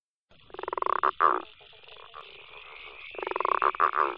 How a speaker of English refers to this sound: Have a listen to the following chorus of frogs and see if you can hear each of the five frogs that we've talked about today.